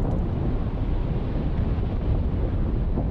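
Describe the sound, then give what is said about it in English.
A deep, continuous roar of glacier ice calving as large pieces of ice break off and fall into the sea, with heavy low booming rumbling steadily throughout like a jet engine up close; no voices. “There are incredibly low, booming sounds. They sound like jet engines up close as these large pieces of ice calve and fall.”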